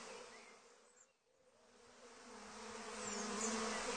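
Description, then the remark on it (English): A steady swarm of bees buzzing with a droning hum, dipping briefly near the start and then swelling louder, with no voices present. “I have discovered that the bees are now definitely suspicious.”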